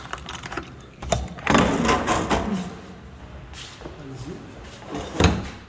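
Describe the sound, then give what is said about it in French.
The heavy cold-room door of a very large fridge in a basement being handled, with several solid clunks and rattling knocks, the loudest bursts near the start and end, over faint background voices. “Moi, j'ai récupéré un frigo. C'est assez immense, quand même. C'est immense. Voilà, moi, c'est ce frigo, ici. Avec la vraie porte de chambre froide, ouais.”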